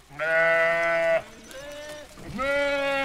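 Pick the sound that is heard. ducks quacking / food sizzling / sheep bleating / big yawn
sheep bleating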